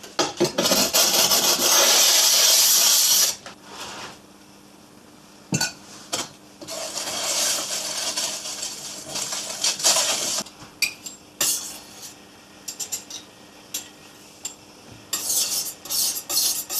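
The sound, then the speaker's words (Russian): A glass muller grinds icon paint against ceramic tile, giving a gritty, scraping rub that rises and falls in bursts, loudest at the start, with brief pauses and no talking. “Обычно это делается таким стеклянным курантом, таким вот спуском, но на стекле или на кафеле.”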